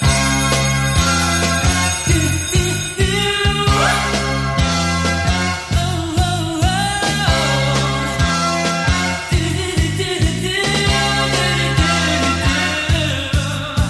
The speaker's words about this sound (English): Hey everyone, today's show just starts with the bell. Just wanted to let you know, in case you're driving, it can be a little startling. Here it comes.